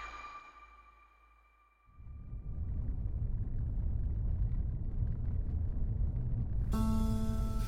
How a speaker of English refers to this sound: It's coming up to Christmas, 2022. I'm driving to Whiskey Creek once again, but this time, I'm going to chop down a Christmas tree. The roads are in worse shape than when I drove here in the summer and early fall.